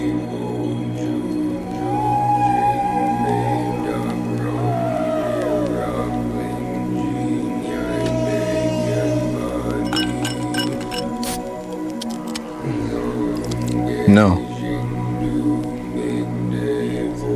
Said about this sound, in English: But of course, this means that I am fasting and as desperately thirsty as I might be at the moment, I can only pour the soda for others.